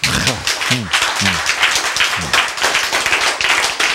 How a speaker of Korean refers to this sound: 박수.